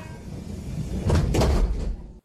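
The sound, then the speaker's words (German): A train getting ready to depart: steady low rumble with a couple of sharp sliding-door thuds in the middle, then the sound cuts off abruptly. “Zug fährt ab.”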